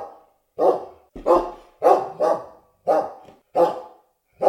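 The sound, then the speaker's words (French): A dog barks repeatedly, about seven or eight loud, sharp barks at a steady, slightly uneven pace, with no voices in the background. “des chiens et des chats en os.”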